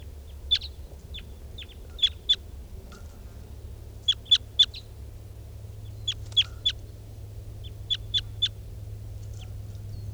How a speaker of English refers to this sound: This is bird 475. There's wild birds fly over. See a bunch of wild crossbills around.